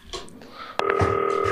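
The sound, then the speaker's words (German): A sharp click, like a handset being picked up, is followed by a steady electronic dual-pitched telephone tone as a call is placed on a green FaceTime phone, fairly loud, with faint background noise before it. “Zack, Hörer beiseite, klingelt und dann geht das hier gleich los.”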